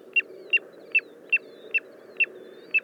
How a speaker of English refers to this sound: This is WSHU's Bird Song Break. This week, the tiny but mighty piping plover.